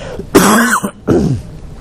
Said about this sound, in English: Excuse me as I cough.